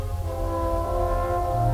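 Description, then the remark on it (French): A car horn blares in one long, unbroken honk, loud and steady, with a harsh buzzing tone that holds for about two seconds with nothing else audible. “Le klaxon n'est pas un jeu.”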